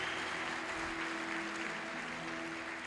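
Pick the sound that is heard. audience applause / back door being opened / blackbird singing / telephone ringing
audience applause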